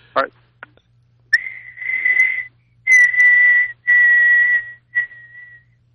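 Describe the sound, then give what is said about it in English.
A person whistles an imitation of a bird call: a short opening chirp, then several sustained steady high-pitched notes with breathy edges, fairly loud, ending in a brief fading trill. No talking. “I was wondering if you could perhaps give me the name of the species of bird if I whistled the this bird is call.”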